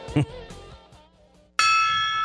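The Lemmings Gong is struck once, loudly, its bright metallic tone ringing out and sustaining after a quieter stretch with a brief muffled knock near the start.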